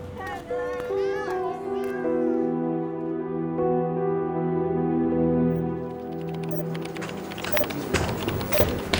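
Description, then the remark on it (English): Several short, rising meows from more than one cat burst out at the start, then give way to a sustained tonal drone with scattered noisy clatter building toward the end. “Get away, cats!”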